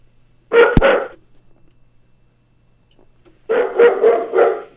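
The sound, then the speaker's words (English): A dog barks at home: one short bark, then a pause of a couple of seconds before a quick run of several more barks. No one speaks. “What's the dog have to say?”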